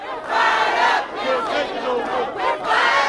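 protesters shouting

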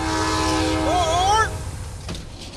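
passenger train running

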